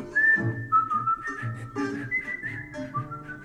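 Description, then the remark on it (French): Someone whistles a tune, a clear piping melody of held and sliding notes moving between pitches, with no talking over it. “Je siffle moins bien que lui, n'est-ce pas?”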